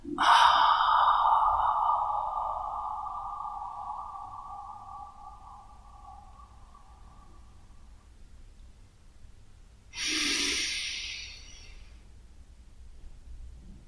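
During a breathing meditation with attention on the exhalation, a long, slow exhalation fades gradually over several seconds, followed after a short pause by a brief, sharper inhalation; clear, with no talking.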